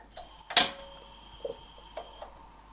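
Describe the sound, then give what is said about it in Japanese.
A gas stove burner clicks as it is lit again during cooking: one loud sharp snap followed by several fainter, irregular clicks, with a steady faint tonal hum underneath and no talking. “じゃあもう一度火をつけます。”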